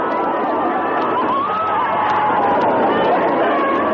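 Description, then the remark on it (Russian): A large crowd in Leningrad roars steadily during the salute marking the lifting of the siege on 27 January 1944, a dense wash of many voices cheering and shouting together in excitement, loud and unbroken, with no single voice standing out. “Это ликование людей.”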